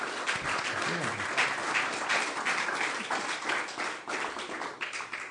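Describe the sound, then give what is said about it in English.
An audience applauds two speakers at the close of a program, a dense wash of many hands clapping at once, sustained and fairly loud throughout with no one speaking. “So let's give a big hand to Jason and Stephen.”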